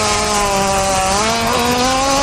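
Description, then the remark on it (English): A hippopotamus fart: a loud, continuous buzzing rasp with a steady, slightly wavering low-pitched tone, lasting about two seconds with no voices over it. “That's an obvious hippo fart.”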